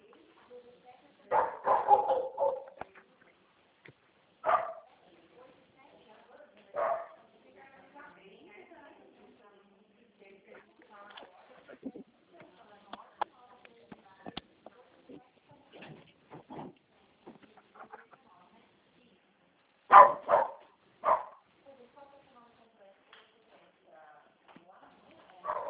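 A female dog barks in scattered bursts, a cluster early on, a few single barks, then another sharp pair later, against a quiet, faintly rustling background.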